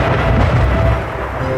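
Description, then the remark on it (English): Steady, dense rain on a rainy night, played as an ambient sound by a sound machine, hisses continuously with a deep low rumble underneath, like thunder, holding an even loudness throughout with no voices. “A rainy night.”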